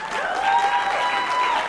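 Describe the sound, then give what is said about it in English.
An audience at a late night runway show claps for a model in a dense, continuous wash of applause, fairly loud throughout, with a thin sustained whistle-like tone ringing above the clapping. “I give her a round of applause.”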